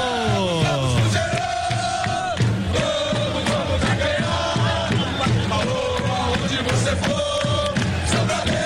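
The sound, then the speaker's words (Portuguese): A huge stadium crowd of Cruzeiro supporters at their home ground roars and chants continuously during a football match against Chapecoense, thousands of voices rising and falling in rhythmic waves, loud and dense with shouts layered throughout. “Eu boto a maior fé no Cruzeiro, então, Cruzeiro, com a sua apaixonada torcida em casa, Cruzeiro.”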